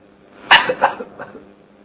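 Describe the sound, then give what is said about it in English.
A man's voice imitates the harsh, wheezing death cough of a dying man as death approaches: one sharp burst followed by a few weaker, ragged hacks trailing off over about a second, fairly loud. “Like Ajamila, when he saw death approaching in the form of the Yamadutas, he was coughing his death cough.”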